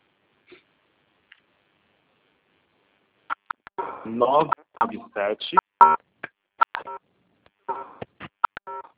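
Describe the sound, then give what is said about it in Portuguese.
Mobile phone keypad tones beep in a quick, irregular string of short, bright blips as someone taps numbers on a cell phone during a call. A couple of faint clicks come first, followed by a dense, fairly loud run of tones. “Gente, tem alguém digitando, não dá para ouvir.”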